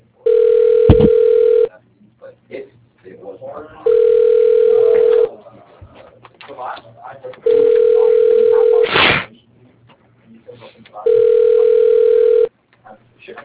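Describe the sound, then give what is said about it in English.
A telephone rings on the line: four long, steady mid-pitched tones, each about two seconds, separated by short pauses, with faint muffled noise and a couple of sharp clicks in between. “Sorry I couldn't make it to the phone.”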